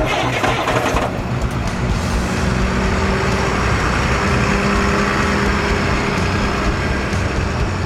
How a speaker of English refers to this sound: Quick, dive into this laundry truck, which is conveniently leaving the factory.